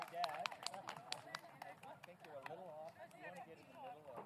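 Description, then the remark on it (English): A crowd of people cheering and shouting together in a video of a newly built canoe being put in the water, with scattered sharp claps or footfalls cutting through the steady, lively din. “Oh, there is cheering, though.”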